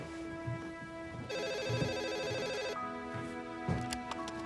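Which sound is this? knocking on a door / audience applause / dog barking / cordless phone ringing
cordless phone ringing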